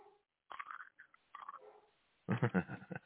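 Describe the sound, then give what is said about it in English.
Loud crunching of jalapeno kettle potato chips being bitten and chewed, with a few short bursts early on and then a heavier, louder stretch of crunching at the end. “I love the crunch, man.”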